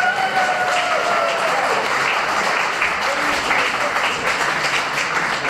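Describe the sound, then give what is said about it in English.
A crowd in Poland cheers and applauds loudly and steadily for several seconds, dense clapping mixed with whoops and shouted voices, with no pause in the noise. “I've never heard you cheer that loud in this country.”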